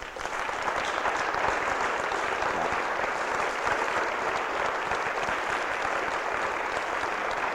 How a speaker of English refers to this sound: And I just like to all you people in here to give this beautiful person a big clap hand here. Come on.